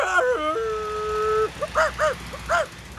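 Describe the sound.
A voice imitates a dog: a long, wavering howl that steps up and down in pitch, then about five short, yelping barks in quick, uneven succession, fairly loud.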